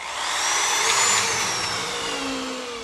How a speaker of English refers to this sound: And he drills screws into new planks in the deck he's replacing behind his house to relieve the stress of a life plan gone awry.